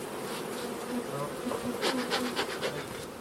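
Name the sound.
honeybees buzzing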